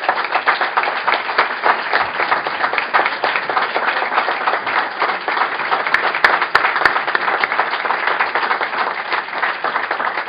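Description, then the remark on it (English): Steady, dense applause from an audience for a group of young men, students, fills the whole stretch, many hands clapping at once in a loud, even wash with a few sharper claps popping out near the end. “And if we can just take a moment to give our young men a round of applause.”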